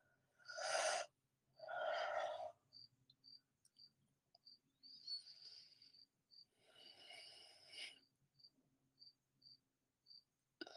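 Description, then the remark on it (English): Several breathy yawns from a person going into channeling, two close together at the start and a longer, softer one later. Crickets chirp in a steady, regular rhythm in the background. No one speaks. “When I go into the space of channeling, there's usually some yawning involved, and that's just me as I process her energy through.”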